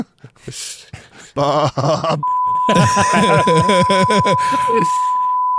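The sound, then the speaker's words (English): A steady, high-pitched censor beep holds one unbroken tone for over three seconds, cutting into overlapping speech that continues loudly over it. “That was a really long beep.”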